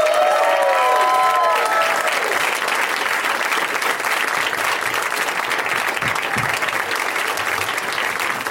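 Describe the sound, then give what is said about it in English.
A crowd bursts into sustained, steady applause with scattered whoops and cheers at the start, the clapping staying loud and dense throughout, welcoming guests Milana Weintraub, Paul Scheer, Baron Vaughn and Leonard Maltin. “Please give a big warm welcome, you guys, to Milana Weintraub, Paul Scheer, Baron Vaughn, and Mr.”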